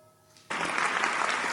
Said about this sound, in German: Das war euer Applaus.